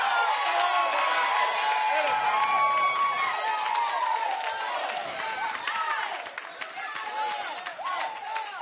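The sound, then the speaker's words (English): A large audience screams and yells together in a loud, sustained roar of overlapping voices that keeps going for several seconds, easing only slightly toward the end. “And I know there's somebody else in here that going through some things in your life that if you had an opportunity to get just a little bit of relief, is there anybody that just want to scream?”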